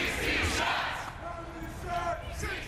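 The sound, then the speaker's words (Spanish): Hundreds of protesters chant "16 shots" together as they march through the streets of downtown Chicago on a Tuesday night, a loud, steady roar of many voices with rising and falling shouted phrases. “Cientos de manifestantes coreando 16 disparos recorrieron las calles del centro de Chicago el martes por la noche”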